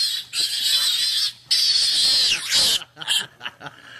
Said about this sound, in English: And it's quite a noise. It is. I mean, that dog was upset, but it was still, you know, not nearly as traumatic sounding as the pig. Let me see if I can get this video here. When someone picks up a pig.